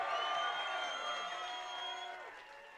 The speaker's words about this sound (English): So we're now joined by Mark McKenna and Michael Scanlon. A big cheer for Michael and Mark.